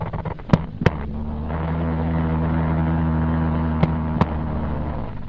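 Jumping spider courtship vibrations on a nylon pantyhose surface: a steady, low droning buzz that runs throughout, broken by two pairs of sharp, loud clicks, one pair early and one near the end.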